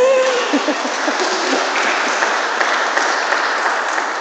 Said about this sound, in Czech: Jo, klidně mu zatleskej.